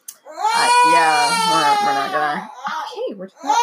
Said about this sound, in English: Hold on. I'm going to rescue the screaming baby.